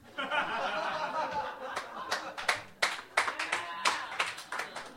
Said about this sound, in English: Shouldn't have clapped that.